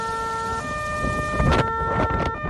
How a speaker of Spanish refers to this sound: Los sonidos de las ambulancias, los sonidos de los bomberos y el sonido del fuego comiéndose el bosque, tanto de Galicia como de Asturias, son lamentablemente protagonistas en este inicio del programa.